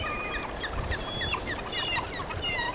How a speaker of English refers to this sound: Eagles and seagulls feasting on chum salmon, and photographers with foot-long lenses clicking away as they watch the raptors. In one word, wow.